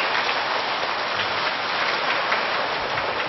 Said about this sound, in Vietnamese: Vậy thì để tri ân lời dạy của Thầy cũng như thay đổi không khí, xin quý vị cho một tràng pháo tay thật lớn trước khi đi vào câu hỏi thứ ba.